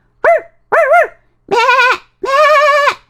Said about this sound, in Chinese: 草原上响起此起彼伏的狗叫声和羊叫声